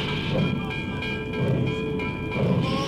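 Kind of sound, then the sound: vehicle, train rolling on rails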